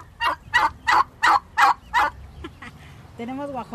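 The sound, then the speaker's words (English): Six quick, loud turkey gobbles from turkeys a family raises alongside chickens and ducks ring out in a steady rhythm, followed by a few softer clucks before a voice starts speaking at the end. “During their months of confinement, the family started a garden and began raising turkeys, chickens, and ducks.”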